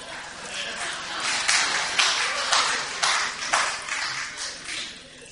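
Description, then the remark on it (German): Water squeezed out of a sponge just taken out of water, pouring and splashing in a steady stream that swells in repeated gushes about every half second. “Und jetzt nehmen wir mal den Schwamm raus. Was kommt aus ihm raus?”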